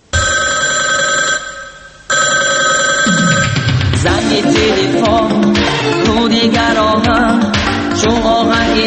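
A telephone bell rings loudly in two bursts with a short pause between, then a song with a pounding beat and bright synths starts and carries on to the end.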